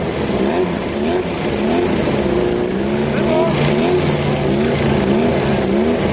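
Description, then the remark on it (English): Drag racing cars rev loudly and continuously on the start line while staging, a steady roaring engine drone that fills the whole few seconds, with a man's voice talking over the noise. “In drag racing, staging is a tactical thing.”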